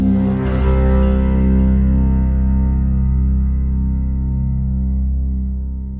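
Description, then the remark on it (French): Loud, resonant chapel bells ring out with deep sustained tones, one clear strike near the start, then a long humming resonance that slowly fades, with no voices. “Peut-être même que vous entendez les cloches qui sont en train de sonner.”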